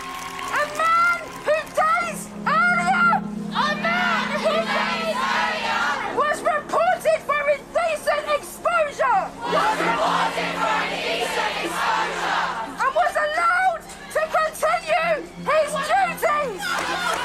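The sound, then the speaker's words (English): A large crowd gathered for a tribute around a bandstand, with a trail of candles on the ground, fills the air with dense, overlapping voices and shouts, a continuous loud hubbub of many people talking and calling out at once, with bursts of raised cries throughout. “Swarms of people are still arriving.”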